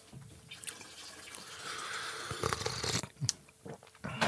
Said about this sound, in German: Ich finde, dieses kochende Wasser gehört dazu, aber zur Soundkulisse.